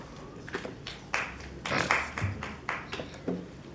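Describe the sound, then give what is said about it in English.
A single person claps slowly and somewhat unevenly after an item is approved at a city meeting, about nine sharp claps spread across a few seconds in a quiet room, with faint background hum and no talking. “The sound of one person clapping.”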